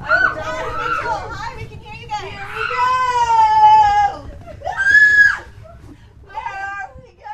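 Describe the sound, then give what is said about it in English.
A person inching through a darkened, texture-filled obstacle course lets out a series of loud, high-pitched shrieks in uneven bursts, the longest drawn out for about a second, with short gaps and breathy vocal noises between them. “Okay, that's a lot of shrieking.”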